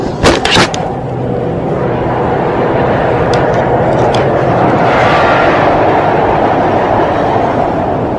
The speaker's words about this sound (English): Some of the commuter train passing by. 100 yards away, up a bit from the street.